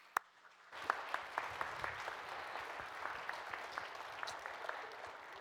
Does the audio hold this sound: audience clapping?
yes